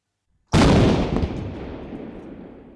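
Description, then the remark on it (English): A single loud cannon blast, fired in a stage play when the king arrives, booms out abruptly after a brief silence, then its deep rumble slowly decays and echoes away over the next couple of seconds. “There is a cannon in the play when the king arrives.”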